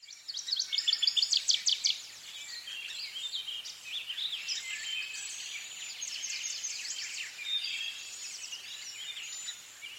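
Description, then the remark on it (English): Several birds sing and chirp continuously from treetops and dense brush along a trail, with a loud burst of rapid trilling notes at the start, then overlapping twittering songs, no voices present. “Listen for birds singing from treetops and dense brush.”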